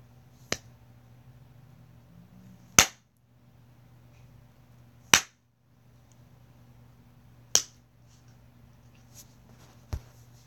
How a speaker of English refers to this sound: How many slaps do you think it'll take to get there? 3? 4? 10? Only one way to find out, I suppose.